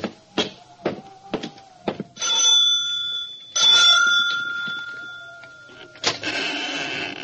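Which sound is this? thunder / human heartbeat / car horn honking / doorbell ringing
doorbell ringing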